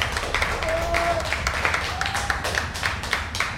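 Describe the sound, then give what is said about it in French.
Steady applause from a crowd celebrating the Passeport Vacances programme, a dense, crackling patter of many hands that keeps an even loudness for several seconds, with a brief whistle-like tone rising through it. “Et je crois qu'on peut applaudir et célébrer.”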